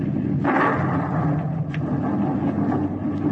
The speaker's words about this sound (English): Good heavens! Did you see that? The lightning struck him dead.